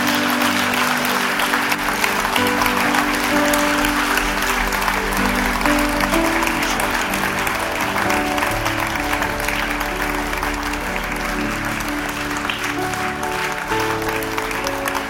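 An audience applauds steadily for about fifteen seconds, a dense, even wash of many hands clapping, with low sustained musical tones humming underneath.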